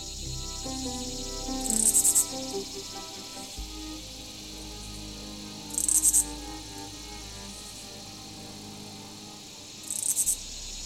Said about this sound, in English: This year, the periodical cicadas of my region emerged after 17 years of subterranean living.